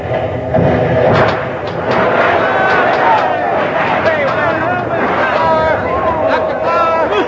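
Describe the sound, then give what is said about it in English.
Heavy thuds and booms from explosions pound a ship's hull in a steady, loud barrage, with overlapping voices and shouting in the background throughout. “Listen to that. We're sure taking a pounding.”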